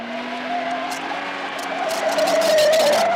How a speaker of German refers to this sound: Mann oder Frau muss halt nur fest auf die Bremse treten und mit dem Fuß auf dem Pedal draufbleiben, um dann erstaunt festzustellen, ich kann das Auto trotzdem lenken, auch wenn dieses ABS so fürchterliche Geräusche macht.